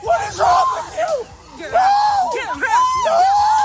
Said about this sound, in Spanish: Todo ello delante de unos vecinos alarmados y que gritaban asustados ante los disparos.